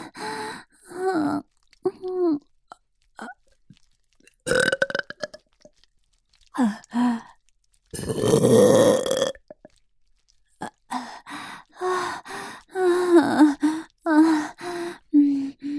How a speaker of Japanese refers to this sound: おちんちんを入れられながらゲップするの、すっごく変態だよね。